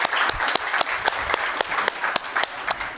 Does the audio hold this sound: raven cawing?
no